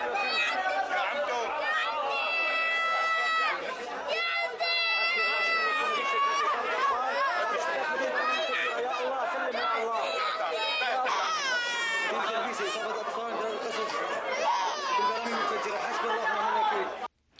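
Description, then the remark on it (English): A young child being treated in a hospital and a small infant with an injured foot cry and wail loudly and almost without pause, their sobs overlapping with the chatter of several adult voices in the hospital. “And then the gut-wrenching sound of a young child being treated in a hospital, followed by the sound of a small infant with an injured foot.”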